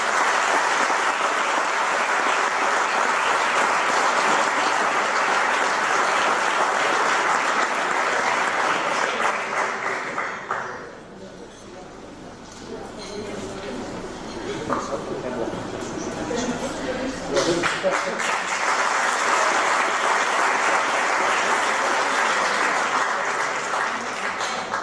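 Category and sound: crowd, audience applause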